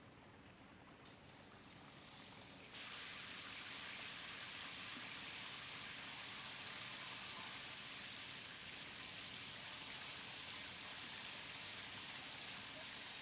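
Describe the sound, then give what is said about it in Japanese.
A shower sprays steadily, the hiss building over the first few seconds and then holding as a continuous, even wash of water with no one talking. The shower is run starting from the head to wet the whole body evenly. “まずは頭からシャワーをかけて、マスター全部を一度まんべんなく濡らします。”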